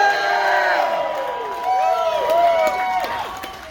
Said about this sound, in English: And what are you marks clapping about?